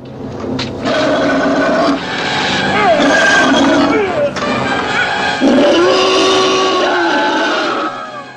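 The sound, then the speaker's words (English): The Gillman, a movie creature, roars and growls as it attacks the help: loud, harsh, squealing vocal bursts with sliding pitch, running almost continuously with a couple of brief breaks. “But what we do get to hear in this scene is what the Gillman actually sounds like while he's attacking the help.”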